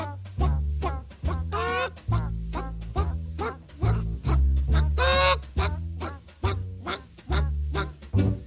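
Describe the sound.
A jazz singer mimics a hen's clucking in short, squawky vocal bursts over a bouncy band with a steady, walking bass line, fairly loud.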